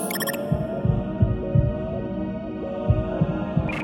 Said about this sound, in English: Locate and monitor that heartbeat!